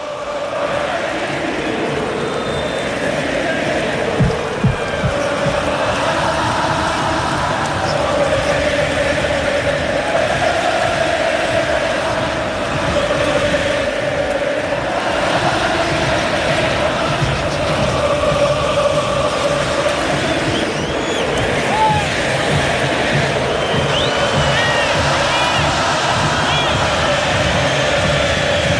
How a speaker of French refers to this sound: Ah, c'est beau, c'est beau. Es un sentimiento que no se puede parar. C'est un sentiment que vous ne pouvez pas comprendre, que vous ne pouvez pas arrêter. Voilà ce que chantent les supporters argentins. C'est le chant iconique.